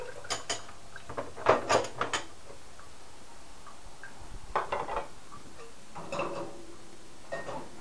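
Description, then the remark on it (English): Dirty dishes clatter and clink in a basket, a scattered series of sharp bright knocks in irregular bursts, with quiet pauses between clusters and no talking. “Nope, you can't have that basket. That has dirty dishes in it now.”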